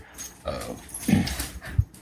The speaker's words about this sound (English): we may have dog noises in the background, bear in mind. I'm trying to keep the dogs relatively quiet